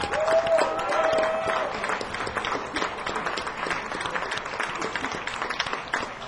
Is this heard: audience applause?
yes